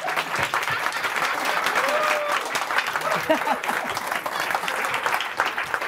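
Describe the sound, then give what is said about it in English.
A crowd claps steadily for about six seconds, a dense, even patter of many hands at a fairly loud, constant level, with faint voices and a brief whistle-like tone mixed in. “I'm noticing a lot of people not clapping.”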